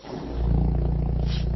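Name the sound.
snoring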